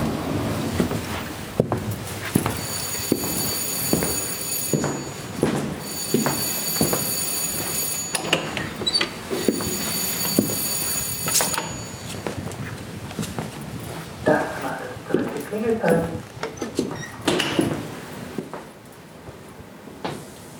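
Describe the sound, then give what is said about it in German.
Elevator doors slide open at floor minus 1 with a mechanical rumble and a thin high-pitched motor whine, punctuated by several clunks and rattles, then settle into quieter scraping movements. “Türen öffnen.”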